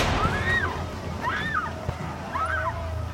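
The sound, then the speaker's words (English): Oil sloshes and pours out steadily onto the floor of a tent, with three evenly spaced glugging chirps, about a second apart, rising and falling in pitch over a low, continuous wash. “But he ignores you, and then starts pouring oil onto the floor of the tent.”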